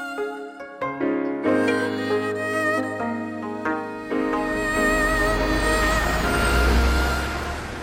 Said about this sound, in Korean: 드디어 버스가 도착했다.